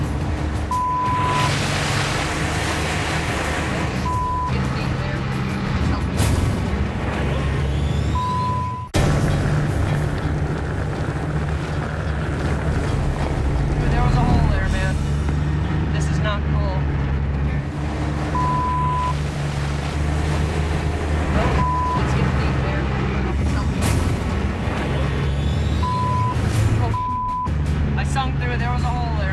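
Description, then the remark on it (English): A tracked vehicle churns through water over ice: a loud, steady engine rumble with constant sloshing and splashing, a few brief high beeps, and indistinct voices underneath. “I got water. This is not good. What I'm afraid of is my tracks spinning on the ice in the water.”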